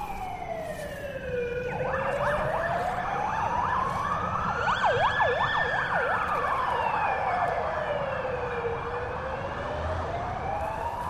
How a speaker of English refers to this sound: Oh, we have some sirens.